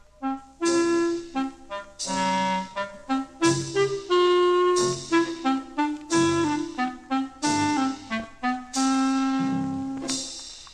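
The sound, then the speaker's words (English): A clarinet plays a melody in its very low register, representing Ivan the cat, a string of short and held notes in halting phrases with brief pauses between, fairly loud and with no voices. “He's represented by a clarinet in a very low, in a very low register.”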